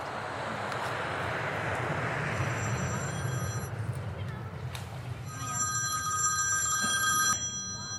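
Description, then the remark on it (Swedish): A telephone ringback tone purrs twice during an outgoing call made at an airport, each ring lasting about a second and a half with a pause between, heard over a loud, rumbling background of crowd murmur and engine noise. “Okej, nu ringer hon på flygplatsen.”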